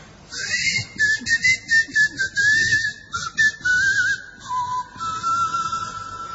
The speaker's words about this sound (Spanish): Bueno, a poco de llegar a Tracoda, se escuchaban los silbidos de los habitantes, y eso es todo lo que dice John de Mandeville acerca de esta isla.